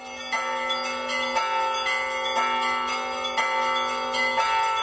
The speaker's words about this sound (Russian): Однажды в село донесся с поля сильный звон колокольчика. Казалось, что вот-вот, еще немного, и колокольчик забьет в самом селе. Но звуки его вдруг почти замирали. Слышались с новою силою, опять и опять замирали.